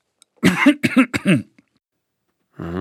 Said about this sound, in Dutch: Ik zal uw longen even onderzoeken. Adem eens diep in en uit. Hoest eens.